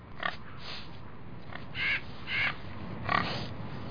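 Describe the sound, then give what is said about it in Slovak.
Pigs oink and grunt in a handful of short, irregular bursts on a farm, a few with a slightly squealing edge, over steady low background noise; nobody speaks. “Či našich prasiatok.”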